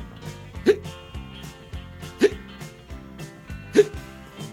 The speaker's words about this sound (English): All at once, I started hiccuping.